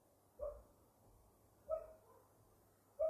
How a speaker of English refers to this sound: And make the dogs bark. Do they know what a podcast is? Clearly no.